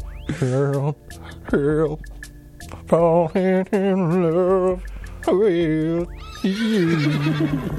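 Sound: horse neighing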